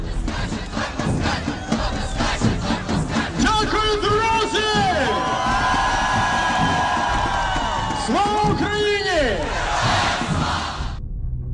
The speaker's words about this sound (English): simple but effective tools like catchy sing-alongs and chanting are employed. Well known for exciting the crowd and creating a group identity, they depersonalize individuals and make them easier to manipulate.